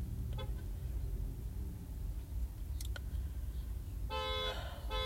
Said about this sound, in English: Oh, fuck. This person next to me, their alarm went off.